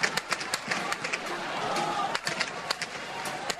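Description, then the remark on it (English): Gunfire crackles through a street in Cairo during a government crackdown on supporters of ousted President Mohamed Morsi, more than a dozen sharp shots in irregular bursts over a steady wash of crowd noise and indistinct voices. “The sound of gunfire in Cairo.”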